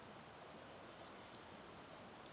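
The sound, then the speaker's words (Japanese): Soft, steady rain falls continuously, a dense even hiss with fine patter and no voices, staying faint and unchanging throughout the short stretch. “でも正直なところ、雨音よりも俺はお前の静かな寝息の方が落ち着くけどな。”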